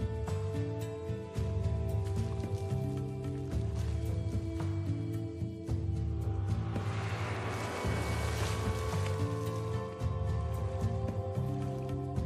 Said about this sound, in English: The girl climbs the ladder to get into the upper barrel. She's about to find out if the water is cold, and so are we. Go ahead, honey, take a dip.